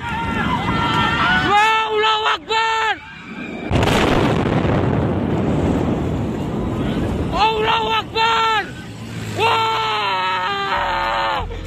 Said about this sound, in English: Footage of the explosion shared on social media shows a large ball of fire